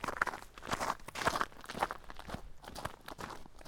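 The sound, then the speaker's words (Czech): Steady footsteps walk along a wide path toward the Královec lookout tower at an even, unhurried pace, each step a soft, slightly crunchy thud, with no voices. “Tak a my jsme příjemnou procházkou přišli až na vrchol Královce”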